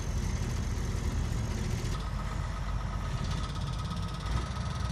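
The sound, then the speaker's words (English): Engines are fired up and idle at 5:32 a.m., within earshot of the Parker Apartments, in a steady, low, throbbing drone that holds at an even loudness throughout, with a faint higher hum riding on top and no voices. “The engine was broken, and so, you know, they're firing up engines.”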